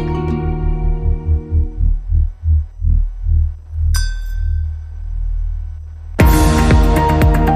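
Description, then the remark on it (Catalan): A deep, steady heartbeat throb pulses over a low droning hum, fading out before a bright ping rings and a loud, dense burst of sound cuts in at the end. “Davall la pell, un sol país trobant-se a si mateix, davall la pell pots escoltar el batec.”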